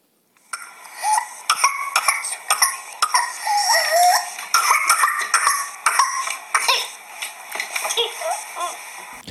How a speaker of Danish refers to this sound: Det vi hørte her, det var simpelthen en klassisk kihoste hos et mindre barn. Og det, der kendetegner kihoste, det er de her sådan serieanfald, hvor man bare hoster. Så kommer der sådan en dyb indånding, hvor man laver sådan en sjov kinelyd.